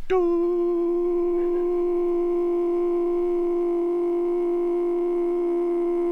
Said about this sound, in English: It will just fade away. And the pastor's voice will become a tone.